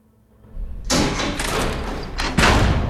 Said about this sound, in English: Lawrence sits up, delirious, as the door to the shower room slides open, revealing Zepp.